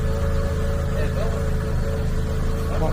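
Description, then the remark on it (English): Car engines run with a steady, loud low rumble and droning hum that persists for the whole stretch, as the cars are being moved. “I'll just pause this and I'll come back to you when all these cars are moved.”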